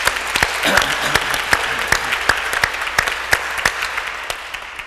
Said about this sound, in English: Let's give him a round of applause for all the work he did.